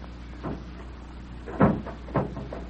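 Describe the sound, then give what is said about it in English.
A door slams shut with a heavy thud, surrounded by a few softer knocks and bumps over a low background hum. No one speaks. “There's that door slamming again.”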